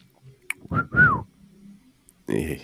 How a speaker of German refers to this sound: Ich kann pfeifen, das habe ich unter Beweis gestellt.